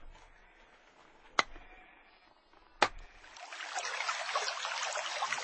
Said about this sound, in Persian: موسی با عصایش خرسنگ رو زد. و اکنون از آن آب جاریست.